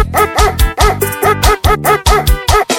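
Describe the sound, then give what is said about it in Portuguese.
A dog barks loudly in a steady, rhythmic run of about seven sharp barks, evenly spaced, with a low droning backing underneath. “Eu gostei desse cachorro, eu achei mais fácil um poder desse cachorro.”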